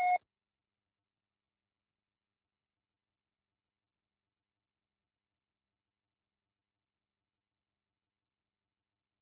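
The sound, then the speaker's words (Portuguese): A single short electronic beep from an answering machine, a quick tonal blip right at the start, followed by several seconds of silence. “após o sinal. Grave seu recado.”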